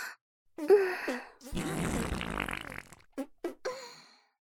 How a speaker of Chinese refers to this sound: 啊，老公我又要放屁了。